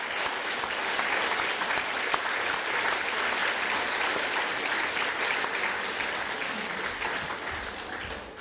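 Warm, sustained applause from a crowd welcoming a guest onto the stage to speak, a dense steady patter of many hands clapping at an even loudness for about eight seconds, fading slightly at the end, with no voices over it.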